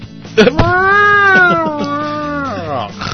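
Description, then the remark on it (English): A person imitates a cat in heat yowling: one long, drawn-out, wavering howl lasting about two seconds, loud, rising at the start and sagging at the end. “It just wears itself out, running around the house, uh-huh. just yowling, and then wakes up and it's perfectly back to normal.”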